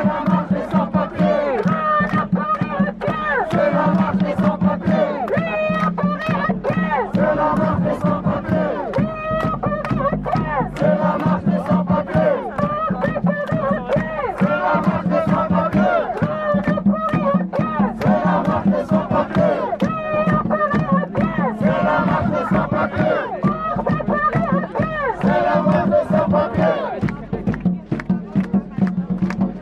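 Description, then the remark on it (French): A large crowd of about 2,000 people at a sans-papiers march in Lyon on Saturday 3 October chants in unison, having marched from Marseille, Montpellier and Grenoble. Voices rise and fall in a steady rhythmic cadence, loud and continuous for the whole stretch with a dense babble of shouting beneath. “nous vous proposons maintenant un reportage réalisé lors de la grande manifestation qui a eu lieu à Lyon le samedi 3 octobre et qui a réuni 2000 personnes qui marchaient depuis Marseille, Montpellier, Grenoble et leur soutien.”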